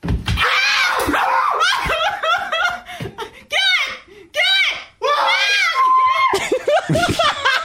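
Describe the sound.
Loud, high-pitched human screams rise and fall in quick bursts, mixed with shrieking laughter and excited voices, continuous throughout.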